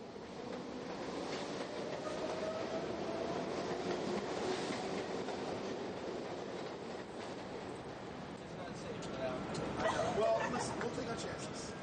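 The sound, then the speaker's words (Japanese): A New York City subway train heading to Wall Street rumbles steadily along for the whole stretch, a loud, continuous roar with rattling and squealing, rising slightly near the end, while muffled voices murmur underneath. “どこまで乗っても2ドル25セント200円の地下鉄で行きます。”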